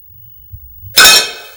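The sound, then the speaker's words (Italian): A steel fork drops into water and sinks, with a sudden bright splash and a brief metallic clink that fades quickly, after a moment of low, quiet rumbling. “La forchetta di metallo”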